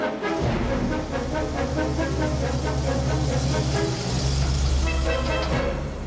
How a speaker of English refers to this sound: Vernon shuts Harvey in the back, then gets in the front and drives away. The van turns off into a side street moments before a police car appears in the main street.